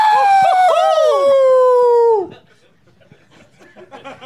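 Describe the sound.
A person howls like a wolf, one long, loud wail that wavers and slides downward for about two seconds before breaking off, leaving faint background chatter and rustling.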